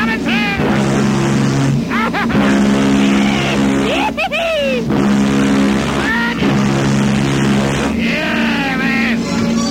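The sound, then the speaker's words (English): A motorboat engine drones steadily at a low pitch throughout, loud and constant, as the vessel passes in front of Alexandria Docks in a no-wake area, while voices break in over the top with rising and falling tones. “Vessel passing in front of Alexandria Docks.”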